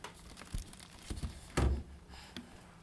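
A plastic pack of baby wipes crinkles and crunches in a few quick bursts, with one louder, longer rustle in the middle and softer crackles around it. No one speaks.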